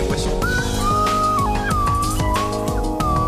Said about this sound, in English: That's what they call a slide whistle.